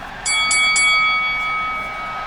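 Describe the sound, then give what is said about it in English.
A bright metallic starting bell for a match struck three times in quick succession, its clear tone ringing on and slowly fading over a steady background hiss, with no voices. “And the starting bell rang twice.”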